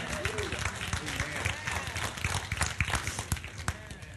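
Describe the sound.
An audience bursts into steady, dense applause, many hands clapping at once with voices calling out in the crowd, sustained and fairly loud for a few seconds.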